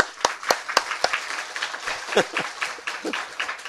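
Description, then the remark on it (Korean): An audience breaks into applause, with a few sharp, evenly spaced claps standing out at first over a steady patter of many hands clapping together. “그러면 한 박수 한번 쳐봐.”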